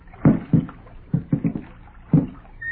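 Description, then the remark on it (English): Oars dip and pull through river water in a slow, uneven rhythm, several soft splashing strokes with quiet gaps between them, as two people stealthily row a boat on the river by a camp toward fresh-cut logs floating on the surface. “Slowly, stealthily, they begin to row toward the fresh-cut logs floating on the surface.”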